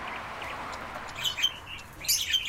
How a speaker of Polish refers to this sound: Zatem, zgodnie ze wskazówkami, zacznijmy od szumu ulicy. Potem ptaki i papugi.